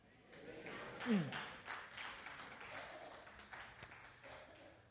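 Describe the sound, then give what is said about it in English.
A Sunday night church crowd shouting and cheering together in praise of the Lord, a sustained, loud wash of sound, with one rising cry standing out early and a sharp clap-like snap near the end. “Can the Sunday night crowd just give a shout of praise for the Lord?”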